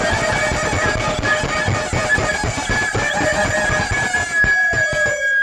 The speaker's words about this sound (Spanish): La gallina. La gallina.